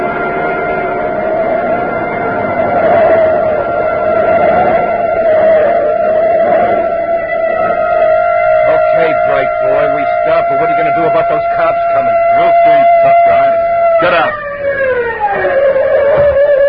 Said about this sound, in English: Hey, a police siren, a block behind. Cops, now we are in the stove.